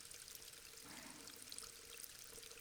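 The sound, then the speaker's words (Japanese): Soft, continuous water sound like a gentle trickle or ripple, steady and fairly quiet throughout with a slight swell near the middle, no voices present. “まさにさざ波のようであるな。”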